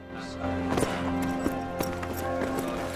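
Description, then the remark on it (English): A black horse's hooves clip-clop in a handful of uneven, sharp strikes on the pathway toward the gate of Nottingham town, over a steady droning tonal background that continues throughout. “As Gisborne appears on his black horse ahead of her, she collapses. He dismounts quickly and hurries over to her.”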